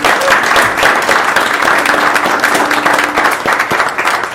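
A crowd applauds steadily for a retiring commission member at a commission meeting, a dense wash of many hands clapping at an even loudness throughout, with a faint steady hum running under part of it.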